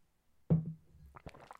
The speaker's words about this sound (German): Ich muss erstmal ganz kurz einen Schluck Wasser trinken.